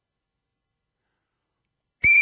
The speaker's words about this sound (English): Blow the whistle.